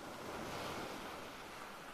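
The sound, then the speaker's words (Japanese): Steady roar of ocean surf washing onto the shore, broad and continuous with no distinct individual crashes, mixed with some wind rumble against the microphone. No voices. “これが波”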